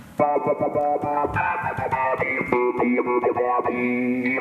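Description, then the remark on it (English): Electric guitar notes rhythmically chopped and swept by tapping a resistive touch strip on the guitar's face that is assigned to a filter and the volume, giving a stuttering, pulsing tone that plays loud with no talking. “And so I have that assigned to like a filter and the volume, so I can just tap this thing.”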